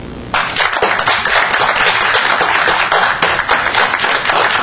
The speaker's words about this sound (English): Now we will ask for the audience vote. Clap your hands if you feel that Northwest University did the better job of debating.